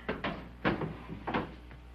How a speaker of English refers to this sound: Here, I'll put these in the drawer for you.